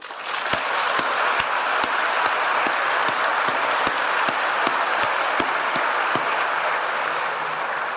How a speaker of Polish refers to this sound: I to jest, proszę Państwa, bardzo duża sprawa i myślę, że wszystkim nam należą się gratulacje i duże brawa.